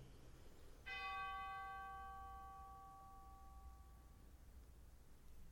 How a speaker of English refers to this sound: And a final chime for all those loved ones on our hearts and minds on this All Saints Sunday.